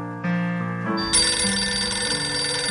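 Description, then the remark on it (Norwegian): A telephone rings steadily and loudly for a few seconds on an outgoing call from the radio programme Utakt, a bright, layered electronic tone that swells partway through, with no voices present. “som ringer fra radioprogrammet Utakt.”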